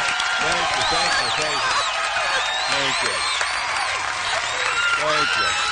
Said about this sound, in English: Thank you. Crowd went crazy.